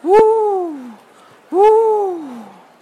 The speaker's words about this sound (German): Da war er wieder, der Ruf aus ihrem Traum. Wer schrie da? Schrie da etwa eine Eule?